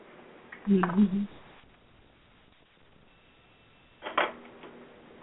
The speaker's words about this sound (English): So hold on, I'm getting my cards out here. They're around the table.